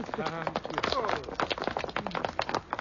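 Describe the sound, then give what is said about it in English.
A footsteps sound effect: quick, regular footsteps tap along in a steady run of sharp hollow knocks, with a voice talking over them. “We can cut those footsteps out, too.”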